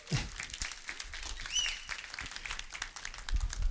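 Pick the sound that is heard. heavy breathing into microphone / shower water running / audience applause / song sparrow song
audience applause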